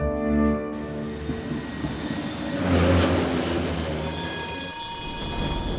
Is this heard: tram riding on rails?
yes